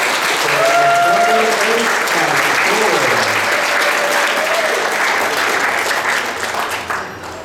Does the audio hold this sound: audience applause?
yes